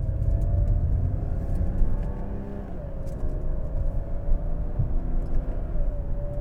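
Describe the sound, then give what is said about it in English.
A car engine hums steadily at a constant cruising pitch in third gear at 3,000 RPM and 60 km/h, with a strong low rumble and road noise filling the background, heard from inside the car without any talking. “3,000 third gear, 3,000 RPM, 60 kilometers.”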